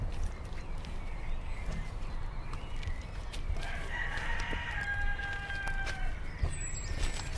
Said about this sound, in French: Les bruits qui se réveillent. C'est beau. Le jour qui se lève, c'est ça. La vie. Les oiseaux qui chantent. Enfin, ils chantent depuis un moment, les oiseaux. On dirait pas, mais les oiseaux chantent la nuit. Écoutez.